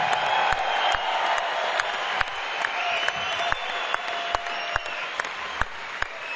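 A large concert audience claps steadily and densely for several seconds, applauding the keyboard player and the guitarist, with cheers and a few high whistles rising over the applause and scattered sharp individual claps popping out.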